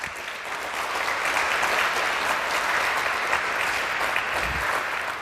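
Sustained audience applause, a dense, steady wash of many hands clapping at an even loudness for about five seconds, with no voices rising above it.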